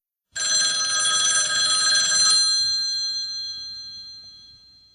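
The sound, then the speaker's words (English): An old-fashioned telephone bell rings loudly in one sustained burst of rapid metallic clanging for about two seconds, then its bright tones fade away slowly. No one speaks. “The catalog was connected to telephone exchanges where customers could call up and place their order over the phone.”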